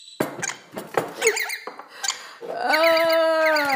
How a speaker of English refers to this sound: Oh, birds. God damn. They're fighting on my shoulder, and I'm really desperately trying to make myself a coffee. You two, stop it! Oh my god! Just Bird Wars, man.